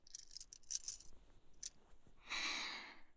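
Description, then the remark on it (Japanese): Light metallic clicks and jingling rattle for over a second, then a brief pause and a softer sustained metal scrape, like handcuffs being unlocked and slipped off a wrist. “手錠は外しておくから。”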